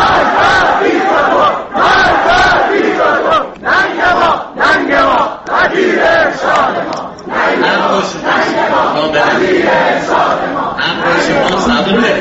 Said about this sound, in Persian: دانشجویان دانشگاه خواجه نصیر روز یکشنبه در آغاز جلسه سخنرانی وزیر پیشین فرهنگ و ارشاد اسلامی محمد حسین صفار هرندی در آن دانشگاه شعارهایی سر دادند.